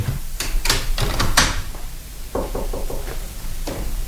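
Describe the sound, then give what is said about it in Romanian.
A back door is opened and shut, with a run of sharp clunks and rattles followed by softer, duller thumps as it settles closed. No voices. “Plec chiar acum prin ușa din spate.”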